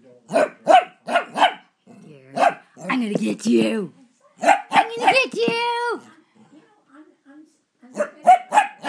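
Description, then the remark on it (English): A small female dog barks playfully in quick clusters of sharp, high yaps while a person playing with her talks in an excited voice between the bursts. “She's all hyper because I'm playing with her.”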